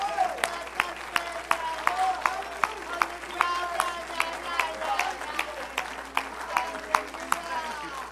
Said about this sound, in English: I want you to lift your voice, lift your hands, clap your hands, whatever. Begin to give God some praise for letting you be a part of the church of the living God.